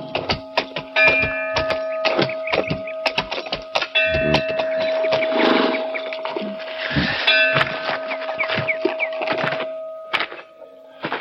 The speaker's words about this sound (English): Senor, quite a welcoming committee. Do they always ring bells? To tell us a stranger is in the pass, it is guarded.